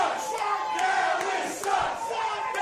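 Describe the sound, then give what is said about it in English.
A large stadium crowd chants together in a loud, sustained roar of many voices. The sound rises and dips slightly in waves, with sharp shouts breaking through now and then. “And the best part is that security came over and told me to stop it, to stop inciting the crowd.”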